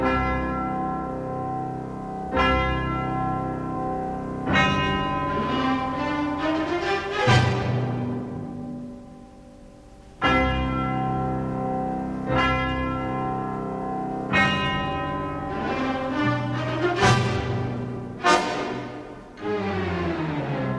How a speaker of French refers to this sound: Et puis après, il va faire également tout un jeu de cloches, des cloches soit situées sur la scène, soit en coulisses.